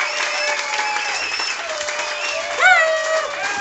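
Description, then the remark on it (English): A packed crowd at Bashes in Olathe applauds Kansas City Chiefs left cornerback Brandon Flowers steadily, with scattered cheers and whoops over the dense clapping, and one voice rises in a loud shout near the end. “Huge crowd here tonight at Bashes in Olathe.”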